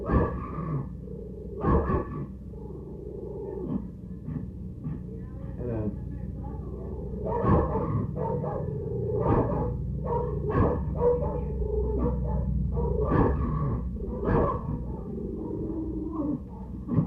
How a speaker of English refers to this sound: What kind of dog is that? That's a Chihuahua. Mm. His daddy and mother just weighed 6.5 pounds.